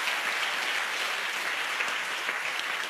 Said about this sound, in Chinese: 相信的拍手再次把荣耀归给主好不好？